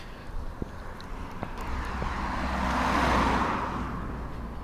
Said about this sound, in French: Ah, je me pousse. Oh, une voiture arrive de l'autre côté, je vais traverser pour éviter de me faire renverser.